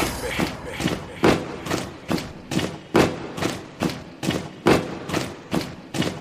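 Heavy feet stomp in a steady, driving rhythm, about two loud thuds per second, each a sharp booming impact that repeats evenly throughout with no talking over it.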